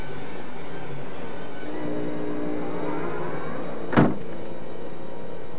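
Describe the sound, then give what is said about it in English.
A single sharp thud of a door being shut, fairly loud, breaking through a low steady background rumble with a faint tonal hum. “Well, shut the door.”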